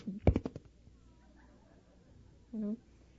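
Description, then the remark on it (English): A person briefly voices a short, flat meow like a cat, fairly loud, following a burst of speech-like sound at the start. “And I'm making pancakes or packing lunches, and what do I hear? Meow!”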